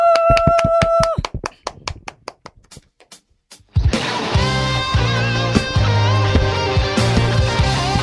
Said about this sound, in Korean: 자, 뜨겁게 박수 해 주시면 가겠습니다.